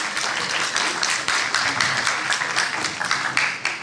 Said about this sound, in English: Everyone look over, there's some lovely drawings. Just want that. Well, a round of applause.